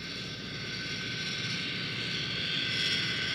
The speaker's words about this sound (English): That high-pitched noise is the airplane nearing us, being led by a yellow truck.